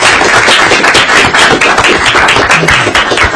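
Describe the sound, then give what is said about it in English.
A crowd applauds steadily, a dense, loud wash of many hands clapping at once with no voices over it, holding an even level for a few seconds. “So please, if we could give him a round of applause.”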